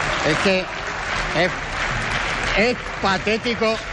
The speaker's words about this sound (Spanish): Los aplausos del Grupo Socialista procederán después de la respuesta del ministro, ¿no?